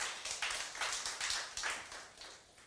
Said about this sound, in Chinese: 我们再一次热烈鼓掌，谢谢今天所有的见证人美好的见证。